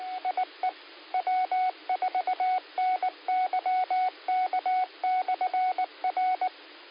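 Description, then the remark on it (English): A rapid string of touch-tone (DTMF) dialing beeps, dozens of short two-tone pulses in quick bursts with brief gaps, clear and steady over a band-limited amateur radio 2-meter net channel, dialing a phone call, with no one talking. “If you're going to be up and available, I'll just go ahead and call you in just a moment.”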